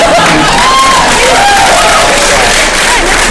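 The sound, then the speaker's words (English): A crowd's loud, dense applause fills the whole few seconds, with a few voices whooping and cheering over the steady wash of clapping. “Since you're either applauding because you're all crazy homeless crackheads, or you saw it, I'm hoping it's the latter.”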